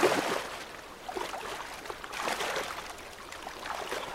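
River water flows and rushes steadily, with a broad hiss that swells in splashy surges every second or so. No one speaks.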